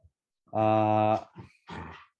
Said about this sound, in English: No, our dog is going crazy.